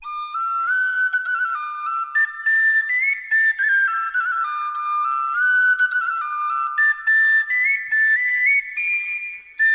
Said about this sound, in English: Now, where did I put that tin whistle?